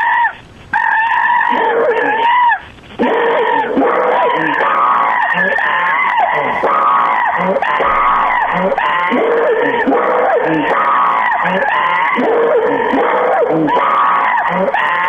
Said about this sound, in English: Now here's a funny one. This one is a strange monkey sound recording they have up there. I don't know why it's there other than I guess it's a test.